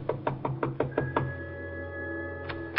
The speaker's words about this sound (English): She told me to wait, then she went over and knocked on the door.